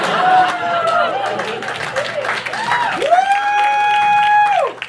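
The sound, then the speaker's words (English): An audience applauds steadily for about five seconds, the dense clapping mixed with cheers and a long, rising then held whoop near the end before it cuts off. “That's not the ending, but I do deserve a clap for that.”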